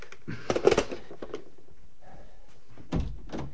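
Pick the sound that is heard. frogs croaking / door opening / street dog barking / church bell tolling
door opening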